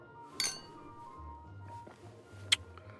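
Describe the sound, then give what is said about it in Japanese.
Two bright, ringing clinks of brandy glasses touching in a toast, one early and one near the end, each a short sharp chime over a quiet low room hum with no talking. “どんな懇談か知らんが、まあいい。乾杯。”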